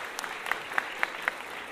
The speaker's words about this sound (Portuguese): quero uma salva de palmas.